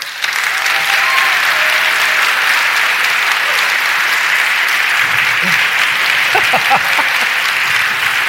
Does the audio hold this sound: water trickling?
no